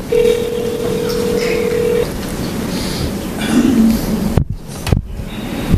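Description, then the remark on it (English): A steady electronic phone tone holds for about two seconds, followed by a few short dialing beeps as a call is placed on a phone, over a busy, noisy background, then two sharp clicks near the end. “I'm going to call on my phone, okay? And we're going to try to do this by phone.”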